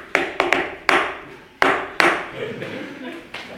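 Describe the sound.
A distinctive knock: about seven sharp, ringing raps in an uneven pattern, a quick cluster followed by spaced single knocks, each leaving a short echoing tail, with faint voices murmuring underneath.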